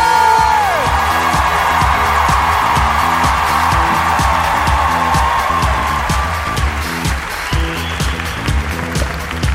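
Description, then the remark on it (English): A crowd claps and cheers loudly and steadily as a comedian is introduced, with whoops rising from the dense wash of applause, while a thumping rhythmic beat pulses underneath the whole time. “So why don't you guys start clapping, get amped”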